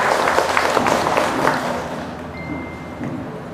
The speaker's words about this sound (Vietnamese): Xin cho một tràng vỗ tay thật lớn để tán dương tinh thần chung.